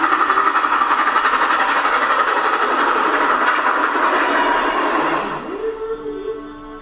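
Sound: steam locomotive running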